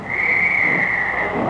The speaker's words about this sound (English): I'm going to blow me whistle right now, and that's it.